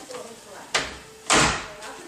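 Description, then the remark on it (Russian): A linen cupboard door is opened: a short wooden knock or click, then a longer rubbing sweep as it swings, with faint indistinct voices in the background. “Вроде мы всюду были, тут дверь, ну-ка. Это просто шкаф такой для постельного белья.”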